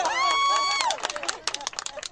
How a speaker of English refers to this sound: They actually applaud.